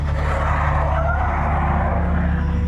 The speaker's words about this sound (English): The compact car began to slide as soon as it hit the ice. Its back end started to spin out.